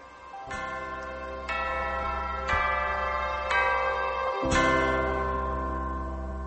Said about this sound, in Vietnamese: Trong lời thơ không thấy rõ cảnh chùa, chỉ nghe tiếng chuông chùa vọng lại.